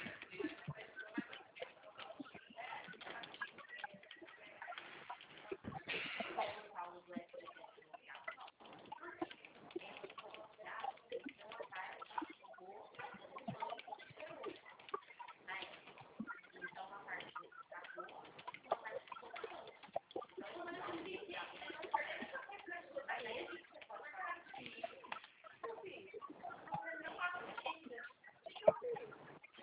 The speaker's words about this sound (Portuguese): Já mandei. Já vou digitar aqui.